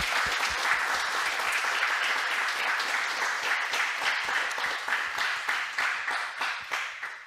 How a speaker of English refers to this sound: Yeah, let's give a round of applause for ….